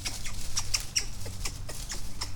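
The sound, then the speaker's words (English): Two squirrels chase each other on the ground by a creek, letting out rapid, high-pitched chattering: a steady run of sharp squeaky chirps and clicks, some tonal peeps among them, over a low background rumble. “Oh my God, there was two squirrels right at my feet.”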